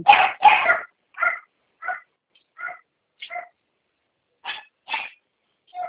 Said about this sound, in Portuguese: Tem cachorro, né? Tem um monte, só 14. 14? Só.